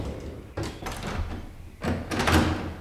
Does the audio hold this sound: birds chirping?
no